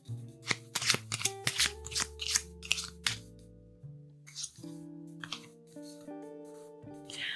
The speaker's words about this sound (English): Okay, so let's shuffle these cards and see what we need to affirm today.